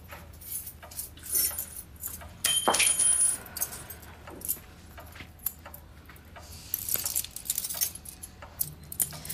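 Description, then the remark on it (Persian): Building keys jangle and clink in a series of bright metallic rattles, with a brief louder burst of shaking early on and scattered jingles throughout, no talking. “خانم چی شد این کلیدا؟”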